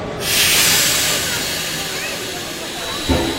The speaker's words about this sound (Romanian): Ne urcăm în vagoane de vite, dar trenul așteaptă plecarea mult timp.